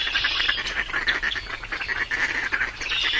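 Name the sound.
migrating birds calling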